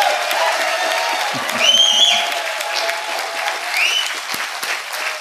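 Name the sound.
audience applause and cheers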